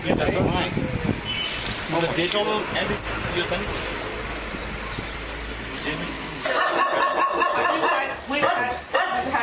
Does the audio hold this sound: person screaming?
no